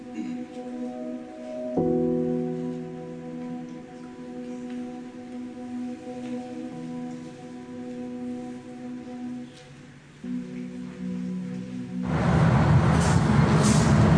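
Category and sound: vehicle, bus with air brakes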